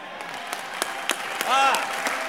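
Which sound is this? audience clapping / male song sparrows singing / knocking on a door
audience clapping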